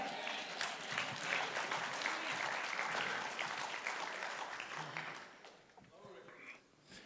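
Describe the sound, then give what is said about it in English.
An audience breaks into sustained applause, a dense crackle of many hands clapping at steady loudness that thins and fades toward the end, with faint voices mixed in. “But today you hear the sound of freedom. It sounds like clapping.”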